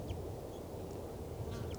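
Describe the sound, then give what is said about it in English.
Wild birds give a few faint, short quacking calls as they fly in, spread out over a couple of seconds, against a steady low rumble and hiss of background noise. No one speaks. “I heard them calling as they flew in.”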